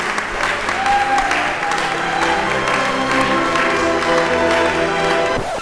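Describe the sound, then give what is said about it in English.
A large crowd breaks into loud, sustained applause, dense clapping filling the whole stretch with a few faint whistles and cheers mixed in before it cuts off abruptly. “Everyone will hear it and erupt into wild applause for your phenomenal achievement.”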